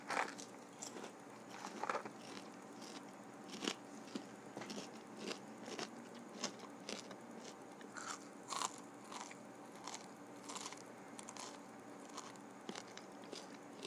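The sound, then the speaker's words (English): Crisp crunching from someone biting and chewing food, with repeated sharp bites and steady chewing crackles in an irregular rhythm, no talking. “Some people like to hear the crunches.”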